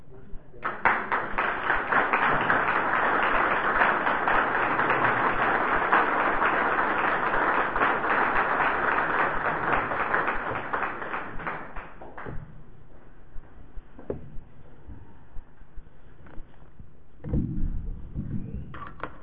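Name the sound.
audience applause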